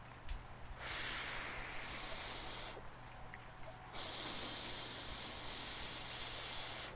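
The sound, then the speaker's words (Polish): Someone blows on fading fire embers in two long, breathy gusts, each a steady airy hiss lasting a couple of seconds, with a short pause between them and no talking. “Podmuchaj pan trochę. No proszę pana, podmuchaj.”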